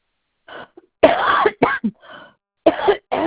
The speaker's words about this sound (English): Sorry for my coughing.